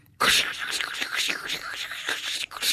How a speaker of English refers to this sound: I guess this is the ice cubes making this noise. Well, I'll pull it out and dry it off then.